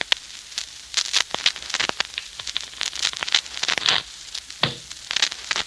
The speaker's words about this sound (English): The sound of shuffling cards can be dangerous music to certain ears, particularly to Mark Easy's.